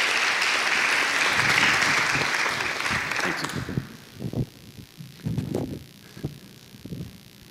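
An audience claps together in a dense, steady burst of applause for about four seconds, then it stops abruptly, leaving a few soft, low thumps and murmurs.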